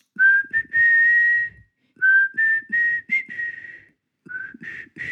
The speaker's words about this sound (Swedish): han är tydligen den enda i sexan som kan vissla …